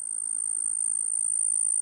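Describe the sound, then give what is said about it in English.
A continuous, high-pitched insect trill buzzes steadily throughout, a sphagnum ground cricket calling without pause, even in volume, with no voices present. “It's more like the sphagnum ground cricket.”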